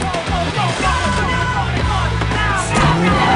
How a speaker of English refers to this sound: The Range Rover peels out, leaving the monks in its dust.